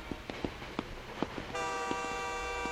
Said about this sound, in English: Say, why don't you hook your cars up to the train set and see how they run?